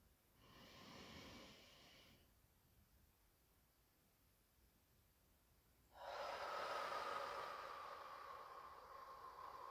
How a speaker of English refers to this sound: Now we'll breathe into our midriff. Feel the bottoms of our lungs expand. Feel our torsos fill with breath as we breathe in.